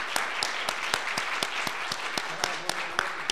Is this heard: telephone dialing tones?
no